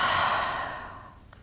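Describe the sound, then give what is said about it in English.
A single slow, airy, soft exhalation, part of breathing in and out, fading gradually over about a second with no speech around it. “And when you're ready, breathing in and out,”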